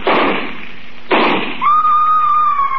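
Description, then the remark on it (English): Two loud rifle shots about a second apart, each a sharp crack with a short rumbling decay, followed by a steady high-pitched ringing whine that lingers to the end. “I raised my rifle and...”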